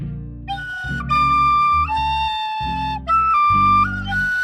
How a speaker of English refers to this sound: Well, I don't know if you noticed, but I actually recorded the backing music that's playing right now. Hmm, that explains the rhythm. And I have my new Irish tin whistle, so I can play the melody.